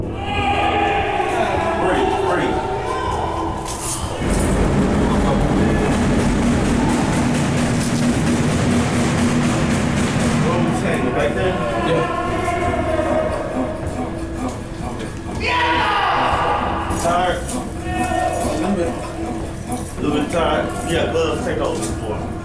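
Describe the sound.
Loud, repeated banging by detainees on metal cell doors clatters over a steady din of detainees yelling at correctional staff while an officer performs CPR, swelling into dense, crashing bursts of pounding before easing slightly, then rising again.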